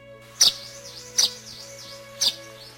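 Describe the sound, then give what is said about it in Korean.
Three bright, high sparrow chirps ring out at roughly even intervals, each short and sharp with a quick downward sweep, over a faint steady hum. Dozens of sparrows are flying into a house. “그때 또 참새 수십 마리가 그의 집 장막 안으로 뛰어들어왔다.”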